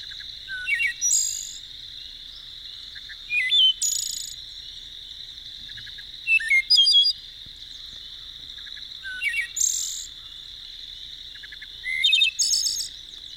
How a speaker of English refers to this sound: We're going to talk about the wood thrush. No other species in the entire U.S., in my opinion, has a more soothing, exquisite song as the wood thrush, as we'll hear now.